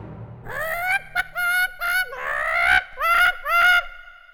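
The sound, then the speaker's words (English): A hen squawks loudly in a string of harsh, nasal cries, short bursts around one longer drawn-out squawk, with no voices. “But as Jack tries to leave the castle, the magic hen opens its mouth and makes a loud sound.”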